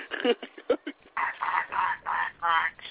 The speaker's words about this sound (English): The hell, did he turn into a duck? I think he did.